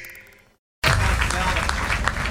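A faint musical tail fades into a brief silence, then loud, dense applause from a large audience bursts in and continues steadily and full: the closing applause after a theatre performance.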